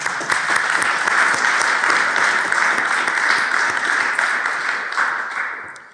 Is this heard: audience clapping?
yes